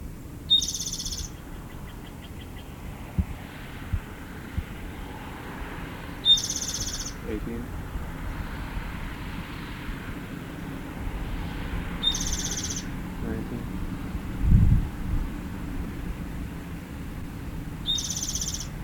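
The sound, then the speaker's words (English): A bird sitting on a bush about 3 meters up, just east of a road, gives a short, high-pitched buzzy call four times, about every six seconds, each burst clear against a steady low rumble of background noise. “The same bird.”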